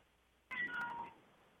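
A single meow from a pet cat, clear, rising sharply then trailing off over about half a second, with no talking, just a quiet background before and after.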